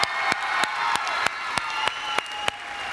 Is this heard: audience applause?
yes